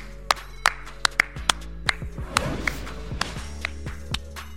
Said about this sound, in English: Clap it up. Clap it up.